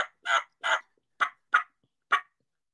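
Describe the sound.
A turkey call imitating a gobbling turkey, played inside a house: five short, raspy, mid-pitched notes in a loose, uneven rhythm, the first pair longer and fuller, with silence between and no talking.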